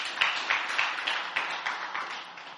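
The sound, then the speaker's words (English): A church audience claps their hands for the praise and worship team in steady, continuous applause, a dense crackle of overlapping claps with a few sharper accents, holding at a fairly even loudness for a couple of seconds. “Yes, let's give a big hand clap to praise and the worship team.”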